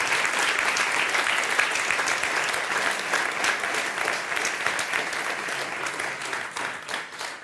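Sustained audience applause, a dense steady wash of many hands clapping at a loud, even level that tapers slightly toward the end, with no talking over it.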